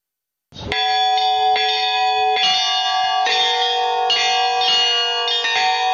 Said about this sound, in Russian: Колокольный звон является проповедью, призывом, произносящимся над улицами города и возвещающим людям о том, что Христос, наш Господь, воскрес.